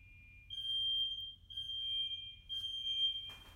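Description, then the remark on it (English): A loud, piercing smoke alarm shrills in long, sustained high-pitched tones with brief gaps. It is heard through a closed bedroom door, with the alarm right outside it. A low rumbling background, and a rustle at the end. “And, because the alarm is right outside my bedroom door.”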